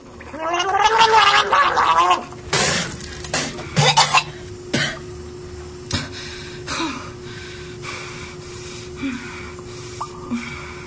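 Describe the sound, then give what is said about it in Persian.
After brushing their teeth, someone gargles with mouthwash in a loud, bubbling burst, then spits and rinses in several short wet splutters, with a steady low hum underneath and no talking. “زبونش هم محکم مسواک میکنه، با دهانشوی دهنشو میشوره، کف دور دهنشو پاک میکنه”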